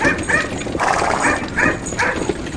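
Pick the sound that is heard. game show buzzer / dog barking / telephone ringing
dog barking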